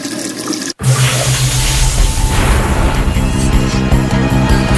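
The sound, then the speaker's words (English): A loud rush of running water from a tap in a bathroom, starting abruptly after a brief silent gap and pouring steadily to the end, with no one talking. “I always run the water automatically when I go to the bathroom.”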